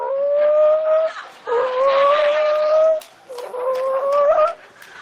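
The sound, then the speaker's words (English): A voice imitates a rooster crowing in three long, drawn-out calls with short gaps between, each held steady and rising slightly at the end, loud. “And then you come walking in the door like a rooster. You're just looking like a barnyard banny.”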